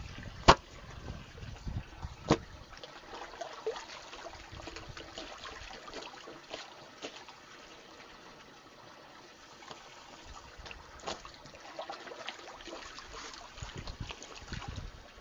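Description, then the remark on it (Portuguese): Water sloshes and splashes as clothes are scrubbed and wrung by hand in cold water in a washing tank, with occasional sharper slaps and wet thumps over a steady, noisy wash. “Sempre roubo para lavar. E assim, lá todos os dias, já não deixa juntar.”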